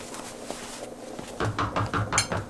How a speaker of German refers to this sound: Nanu, was ist das denn? Da steht jemand vor dem Restaurant und hämmert gegen die Tür.